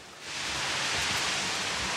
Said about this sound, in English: Raining.